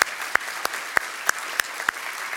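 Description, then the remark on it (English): An audience applauds after a prayer to celebrate the day at a spiritual community service, a steady wash of many hands clapping with a few sharper, louder claps standing out in a roughly even rhythm. No voices are heard. “We joyfully applaud and celebrate this day.”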